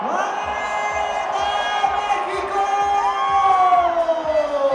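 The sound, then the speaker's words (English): A huge crowd of tens of thousands of fans cheers and whoops continuously at a fan fest in the packed Zócalo, Mexico City's main square, a dense roar of many voices with rising shouts and chants layered on top, loud and unbroken throughout. “The capital's main square became a packed, messy, joyful fan fest.”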